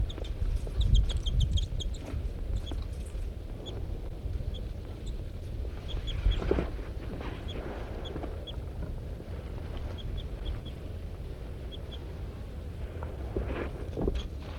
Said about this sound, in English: This is the pair of birds harassing M4.